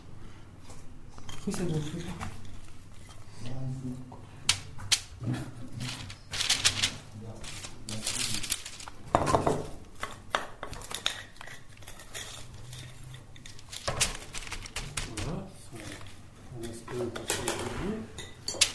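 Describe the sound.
Soft taps and crinkles of parchment paper as small dough patties are set down one after another, a few centimetres apart, on a sheet that will go into the fridge for two hours, with people talking quietly throughout.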